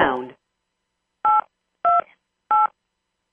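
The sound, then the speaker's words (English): Conference line muting beeps on a TVF call, sounding when lines are muted: four short, bright two-tone electronic beeps at a steady pace, about half a second apart, following a brief harmonic burst at the start. “The beeps that you hear are when muting the conference line.”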